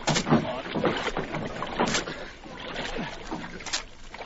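People clamber into a small boat: scattered wooden thumps and scuffs, shifting weight and light splashing of water, with no talking.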